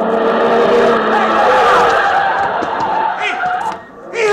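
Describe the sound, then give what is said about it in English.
Car tires skid with a loud, sustained squeal that wavers in pitch for several seconds, then cuts off abruptly near the end. “Wow, look at those tire marks.”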